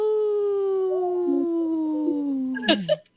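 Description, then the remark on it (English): A human voice imitates a wolf howl, one long sustained tone sliding slowly downward for nearly three seconds before breaking off with a brief rough burst at the end. “that was a weak howl.”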